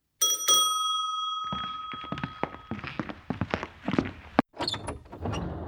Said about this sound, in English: Suddenly the doorbell rang.